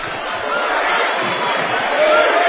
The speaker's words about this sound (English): And the Moorhead faithful on their feet right now, cheering on their squad. You can hear them.